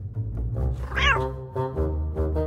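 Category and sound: animal, cat purring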